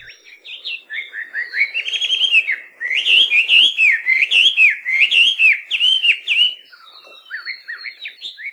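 A melodious laughing thrush, also called Chinese hwamei, sings a long, rich, varied song of rising and falling whistled phrases, loud and continuous with brief pauses, ending in softer, scattered notes. No one speaks.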